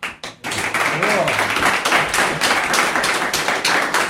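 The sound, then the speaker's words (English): A crowd breaks into steady, dense applause lasting several seconds, many hands clapping in a loud, even wash, with a brief voice rising faintly underneath early on. “Half the room is clapping and half the room is horrified.”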